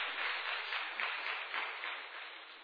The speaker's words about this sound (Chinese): 哈利路亚，再次掌声献给耶稣， Amen Amen Amen。